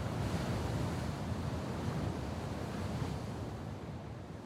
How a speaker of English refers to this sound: The teal green sea churns below.